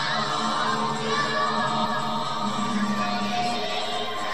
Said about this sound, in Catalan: Desenes de criatures ens reben amb cançons i balls davant la guarderia.